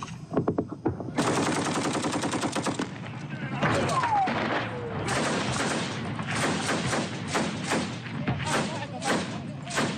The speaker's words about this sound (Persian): ویدیوی غیرحرفه‌ای شبه نظامیان وفادار به حکومت عراق را روز سه‌شنبه در حال تبادله آتش با گروه دولت اسلامی در نزدیکی رمادی به نمایش گذاشت.